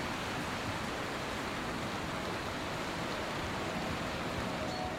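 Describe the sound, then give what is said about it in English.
A steady, dense roar of rushing water fills the scene without pause, broad and hissing: the River Derwent in full spate just over the other side of a wall, with no voices over it. “And by the sound of it, the river just over the other side of this wall is in full spate.”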